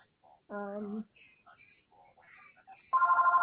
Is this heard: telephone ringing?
yes